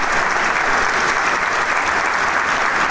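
Sustained applause from an orchestra concert audience at the Teatro Isidoro Martínez, the orchestra also applauding, as the maestro and the conductor exit backstage; a dense, steady roar of many hands clapping at an even loudness throughout, with no voices standing out.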